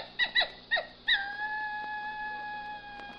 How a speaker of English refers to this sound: Those dingoes, they sound like coyotes. Yeah. Funny, huh?